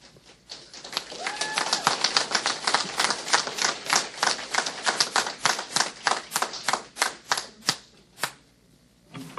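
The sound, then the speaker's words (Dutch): An audience in a council meeting, where clapping is against the rules of order, bursts into applause, a dense, crackling patter of many hands that thins out into a few scattered, separate claps before stopping. A brief whistle-like tone is heard early on. “U mag niet klappen.”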